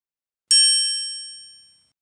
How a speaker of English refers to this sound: Bells jingled, feathers brushed past.